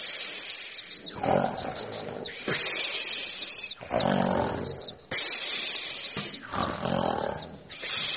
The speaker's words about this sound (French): À présent, je ne peux plus goûter la pluie, grogne le lion.